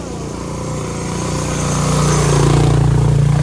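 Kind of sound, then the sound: vehicle, motorcycles arriving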